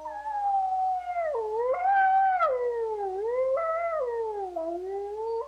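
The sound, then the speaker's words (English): A wolf howls in one long, sustained call that rises and falls in pitch, wavering smoothly throughout, clear with no other sounds around it. “Their eerie, beautiful calls, like this one captured by the organisation Io non ho paura del lupo”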